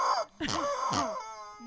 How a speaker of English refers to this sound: That chicken just sounds wrong.